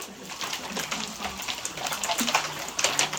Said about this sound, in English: What I'm going to ask you each to do is pour into your cup about, like, you know, half the cup. Do not pour the whole water bottle.